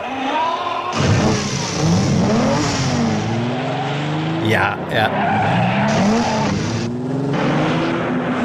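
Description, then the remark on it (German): A montage of Ferrari sports car engine sounds: engines starting, loud revving that climbs and falls in pitch, roaring accelerations and a brief tire squeal, cut together in abrupt segments, with a short spoken word near the start. “Also sagen wir mal Motor-Collage.”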